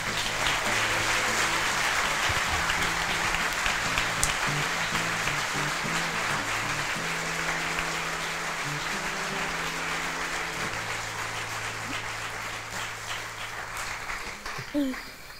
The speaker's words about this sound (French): Merci d'applaudir très fort Céline Tran.